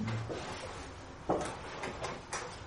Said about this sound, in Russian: Может быть, не знаю, как там окно, наверное, не будем открывать, или может быть закроем дверь и откроем окно.